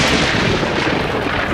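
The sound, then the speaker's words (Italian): A loud, sustained roll of thunder during a thunderstorm, a dense rumbling roar that holds steady for the whole moment without a sharp single crack, with no voices over it. “Beh, abbiamo una base, a parte il temporale”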